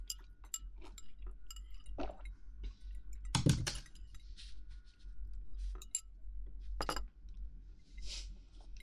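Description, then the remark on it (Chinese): Small ceramic sake cups clink together in a toast over sake and salmon, with one bright double clink in the middle and another later, surrounded by light taps and clatter over a low background hum; no one speaks. “一口三文鱼，一口清酒，这样才是绝配。来，干杯！”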